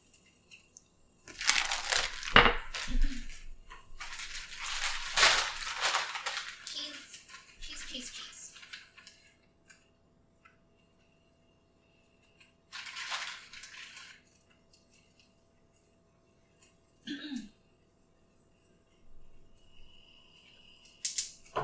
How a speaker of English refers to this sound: Water is boiled. Listen to the pour. I like my tea very, very well steeped.